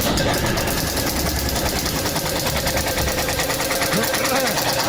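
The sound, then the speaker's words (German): A prize wheel is spun again, rattling with rapid, steady clicking for the whole stretch, loud and continuous, with a thin squeak from the wheel, which needs WD-40, creaking in briefly near the end. “Aber ich finde, wir müssen das Rad, da wir sie mit WD-40 in das Sprühe, das ist irgendwie. Quietschbilly.”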